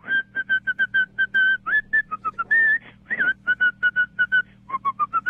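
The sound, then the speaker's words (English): A caller on a radio phone-in whistles a melody in quick, separate staccato notes with a few longer held ones, clear over a low steady hum, with no talking. “Okay, can I whistle it?”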